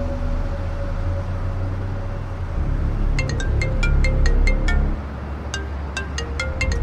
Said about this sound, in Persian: صدرا توی خیابون با ماشین در حال حرکت